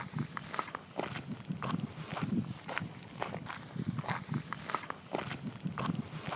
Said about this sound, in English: The meseta is a plateau between the cities of Burgos and León, and I can still hear the crunching of gravel beneath my feet.